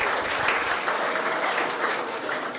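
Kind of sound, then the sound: crowd, applause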